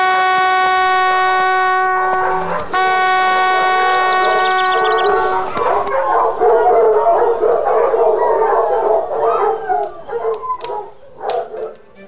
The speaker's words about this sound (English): You may sound the horn.